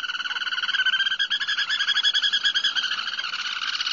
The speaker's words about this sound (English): So if you happen to come up on them, you're likely to see them because they're not being silent. So let's take a listen to the black turnstone.